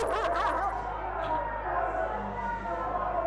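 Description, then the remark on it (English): Several dogs bark and yip excitedly over a steady, busy background of voices and commotion, the barking continuous throughout. The dogs are used by a posse chasing someone down at night. “caught me removing her head one night, and he and his posse chased me down with dogs.”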